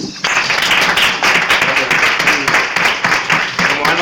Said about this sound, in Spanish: Vale, damos un aplauso.